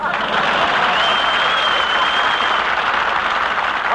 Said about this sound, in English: Once again, we bring you the genial, jovial, laughable, affable dispenser of the brand new silver dollars but very little dialogue for the last few minutes, Groucho Marx. Applause.